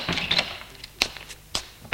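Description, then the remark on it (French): An attic door in a house being opened: a cluster of rattling latch clicks, then a few sharp, separate knocks and thumps spaced over the next second or two, with no one speaking. “Ouvre une porte.”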